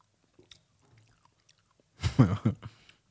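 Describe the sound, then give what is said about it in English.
Wet chewing of nata de coco jelly chunks: a few faint squishy clicks at first, then a burst of loud, squelchy mastication with rhythmic bites before it trails off. “We're just chewing on the coco de nata. In other words, the chunks.”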